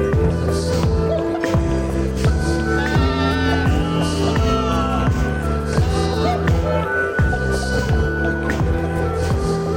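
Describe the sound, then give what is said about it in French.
Goats bleat repeatedly in wavering, nasal cries layered over a steady, rhythmic electronic music track that plays loudly throughout, at the end of a song released in 2012. “Je vais parler sur les bruits de chèvres à la fin du titre qu'on vient d'entendre.”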